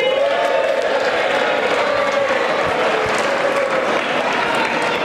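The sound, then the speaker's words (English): Sustained loud applause from a large crowd on the floor of the US House of Representatives during the vote electing the Speaker for the 119th Congress, a dense steady wash of clapping with scattered cheers and murmuring voices mixed in, holding at an even level throughout. “A lot of applause.”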